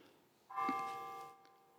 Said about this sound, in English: Oh, look at that. Some bells. The bells are chiming right as I speak about Christ. They wanted the bells, too. It seems so appropriate.